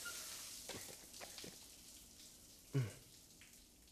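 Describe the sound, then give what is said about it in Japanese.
A shower runs with a steady hiss of spraying water as someone is being washed, broken by a few soft splashes and one louder knock near the end. No one speaks. “シャワー熱くない？ちょうどいい？”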